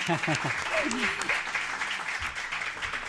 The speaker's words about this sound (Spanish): Bueno, okay, bueno, venga, aplauso, sí, claro.